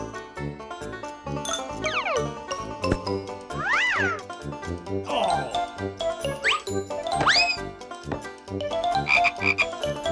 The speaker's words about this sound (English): A toad. A toad.